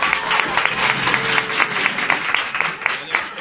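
An audience applauds with a dense, steady patter of many hands clapping, holding an even, fairly loud level for a few seconds, with faint murmuring voices mixed underneath.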